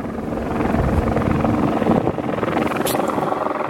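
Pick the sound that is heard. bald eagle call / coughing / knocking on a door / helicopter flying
helicopter flying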